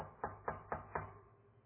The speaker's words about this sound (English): Tell me if this sounds familiar. It's the middle of the night, and you hear someone's knocking on the bedroom door.